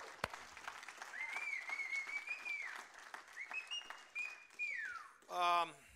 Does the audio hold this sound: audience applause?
yes